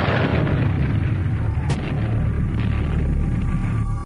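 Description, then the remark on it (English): Japanese mortar shells and small arms fire on a volcanic island, with bullets whistling past: a loud, continuous rumble of low booms, broken by one sharp crack midway, with no voices, cutting off abruptly at the end. “Japanese mortars and also small arm fire are occasionally dropping around us.”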